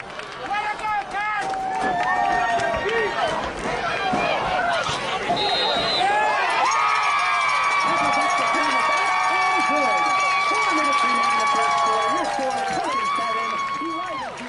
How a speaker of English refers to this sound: gets things set up to make the kick, and here's the crowd reaction when she makes it.